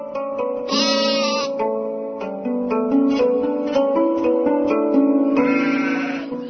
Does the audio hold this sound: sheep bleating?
yes